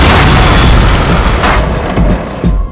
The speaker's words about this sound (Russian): Бум, ты слышишь, как все взлетело.